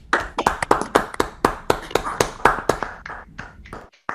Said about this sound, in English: Okay, great. So let's all unmute. I have to give him a round of applause for his very interesting talk.